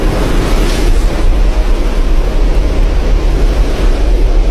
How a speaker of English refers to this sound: Next is big water spouts.